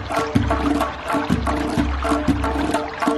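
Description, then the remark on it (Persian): Water rushes and gurgles steadily as knotted greens are released into clean flowing water for a Persian festival tradition. A continuous flowing stream with low, bubbling surges that swell every half second or so, and no voices present. “توی این روز زیبا سنت داریم بچه ها، سبز گره میزنیم، بعد از گره سبز رو به آب پاک میدهیم.”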